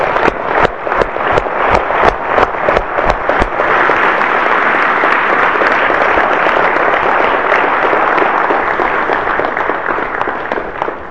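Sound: audience applause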